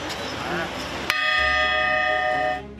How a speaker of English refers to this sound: The bells of Notre Dame are not only back, an iconic piece of French history will be added to this collection.